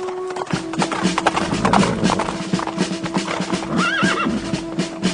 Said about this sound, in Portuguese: Um guarda que estava na torre de vigia de Jezreel viu Jeú e os seus soldados chegando e gritou: Ei, veja alguns homens chegando a cavalo.